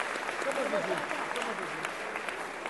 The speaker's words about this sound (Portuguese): Uma salva de palmas para esse moleque também, outro batalhador do céu.